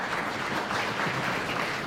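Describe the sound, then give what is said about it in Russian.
Steady audience applause welcoming Romano Prodi before he speaks, a dense wash of many hands clapping at an even, sustained level throughout, with no individual claps standing out and no talking over it. “Ну, а мы поприветствуем его аплодисментами.”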